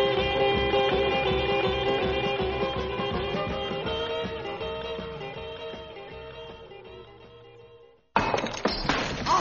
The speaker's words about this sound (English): All my railroad alchemist's equipment, my work, my secrets being smashed to smithereens.